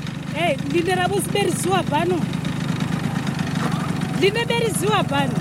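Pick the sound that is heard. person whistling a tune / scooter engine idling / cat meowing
scooter engine idling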